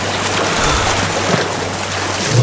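A continuous wash of sea water churns and surges at steady loudness, with a low rumbling hum underneath, like waves breaking around a boat. No voices are heard.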